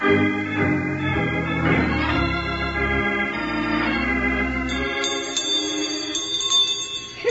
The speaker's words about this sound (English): Hey, Bill, that'd be real fun, wouldn't it? What's that, Jingles? Ringing a bell? Sure, I'd like to ring this bell all the time.